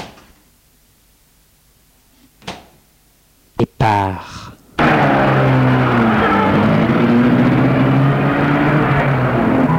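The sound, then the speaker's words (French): After a quiet stretch, a couple of sharp clunks like a car door or trunk slamming, then a loud, steady car engine rumble with road noise that continues to the end; the car is parked in front of a house entrance. “La voiture se trouve devant l'entrée.”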